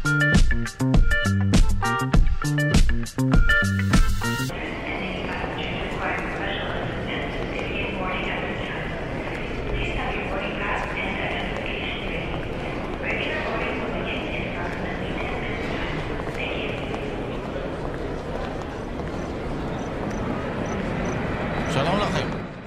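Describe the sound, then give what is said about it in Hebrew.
Busy airport ambience: a steady wash of murmuring crowd voices and mechanical hum that runs throughout, opening with a few seconds of loud rhythmic clattering pulses. “רחש רקע מוגזר, אבל אוקיי, הנה, זהו נמל תעופה.”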